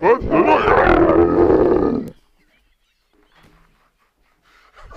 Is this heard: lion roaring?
yes